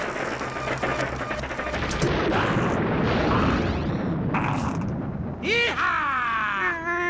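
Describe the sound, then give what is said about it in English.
A sustained, roaring sci-fi lightning gun blast fired at Boba Fett's ship, with crackling bursts and rumbling booms, ending in rising, whining electronic tones as the energy discharge fades out. “Whatever this lightning gun does, it sure packs a wallop.”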